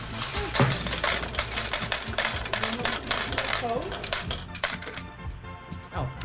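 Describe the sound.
A long, rapid cascade of 48 metal coins clattering down into a tray as a winning payout, continuous jingling for several seconds, loud, with a brief exclaimed word from a person.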